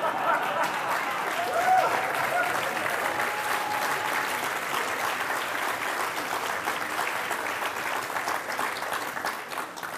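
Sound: audience applause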